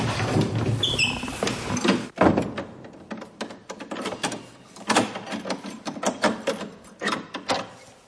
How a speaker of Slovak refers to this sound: Zavreli sme dvere do veže.